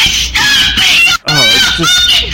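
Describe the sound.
A prepubescent boy screams at the top of his lungs, yelling at another person, a loud, shrill, strained voice in two long bursts separated by a brief breath, harsh.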